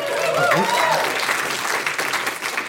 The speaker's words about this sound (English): Chances are you might have met her. She's been around a while, so I assume that's what the applause was.